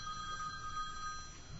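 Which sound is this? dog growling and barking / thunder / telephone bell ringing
telephone bell ringing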